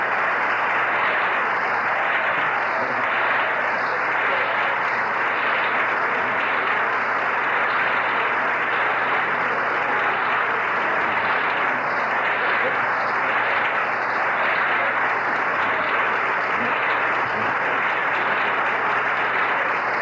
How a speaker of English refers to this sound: Gerald Ford's colleagues are on their feet applauding, and obviously that reference was to the minority leader, Gerald Ford.